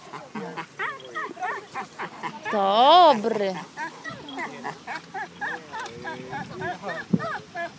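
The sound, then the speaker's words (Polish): Flat-coated retriever dogs let out short, repeated yelping barks and high whimpers, with one loud wavering whine in the middle, while a person speaks over them, calling the dogs. “Wołamy swoje psy. Nie ma. Bo mamy płaskaczy.”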